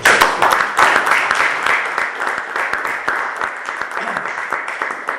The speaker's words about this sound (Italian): Beh, facciamo un applauso anche a loro.